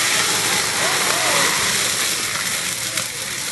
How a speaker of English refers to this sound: And what we have there is a violent chemical reaction. The oxygen is drawn out of the water by the heat and the oil, and you get a flare up. At that particular stage, you've got smoke and flame going up through your range hood.